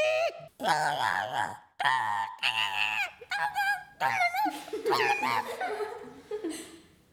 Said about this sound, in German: Das freche Gekrächze des Vogels war ihr peinlich.